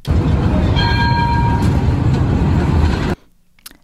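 A tram or train rumbles loudly past, a brief high tonal whine rising over the noise early on, then the sound cuts off abruptly into near silence.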